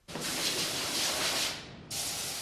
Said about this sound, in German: Das letzte Geräusch in der alten Fabrikhalle kommt von der Spritzdüse. Auftürmt auf grossen Ballett warten die letzten 2'000 Gaclons auf ihr Bad in der Spritzkabine, bevor sie offen kommen.